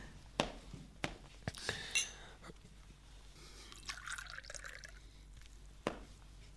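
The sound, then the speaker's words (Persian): A glass of water is poured for someone who asked for one, in a few short, quiet bursts, with soft clinks and drips between them against a still, hushed background. “یه لیوان آب به من میدین؟”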